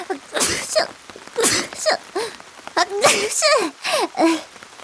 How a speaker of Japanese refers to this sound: くしゃみ止まんなくなっちゃった。